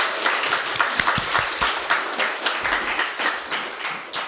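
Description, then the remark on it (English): A church audience claps together for God in a sustained round of applause, many hands producing a dense, steady patter of sharp claps for several seconds, with no voices standing out. “Can we clap for God?”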